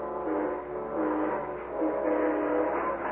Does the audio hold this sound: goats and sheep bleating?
no